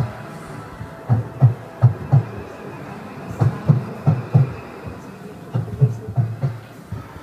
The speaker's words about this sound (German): Und man kann hier auch Zug fahren. Quer durchs Moorland, durchs Fenster schauen, wie die Landschaft vorbeizieht und der Zug leise vor sich hin rumpelt.